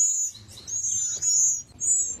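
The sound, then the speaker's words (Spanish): Shrill, high-pitched cries from baby falcon chicks in a nest in a tree, woken by thick smoke rising from a bonfire below, coming in several long, piercing bursts with short gaps, loud over a low background rumble; no one speaks. “Y como esto dificultaba la respiración, los halcones bebés se despertaron y comenzaron a llorar.”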